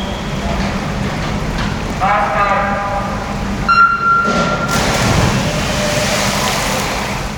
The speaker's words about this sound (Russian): Вот начинается заплыв 100 метров брасом. На старте 8 спортсменов. После серии коротких сигналов они занимают место каждый возле своей стартовой тумбы. По свистку поднимаются на нее и по команде «Старт» прыгают в воду.